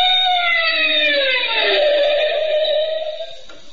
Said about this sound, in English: The scene is Des Moines, Iowa, where a police squad car races up to the entrance of a swanky hotel.